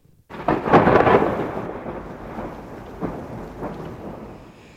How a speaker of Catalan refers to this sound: Vaja, comença a ploure.